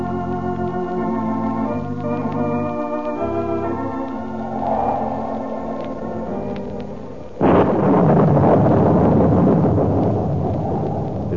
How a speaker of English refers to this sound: Stormy night in Reina de Los Angeles, and none except those with urgent business dare leave their haciendas.